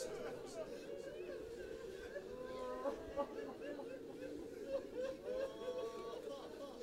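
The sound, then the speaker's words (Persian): A large crowd weeps and sobs together during a prayer, a steady, dense wash of voices, with wavering, rising cries breaking out above the continuous murmur. “کسی اگه رد شه ندونه خیال میکنه شما داغ جوان دیده.”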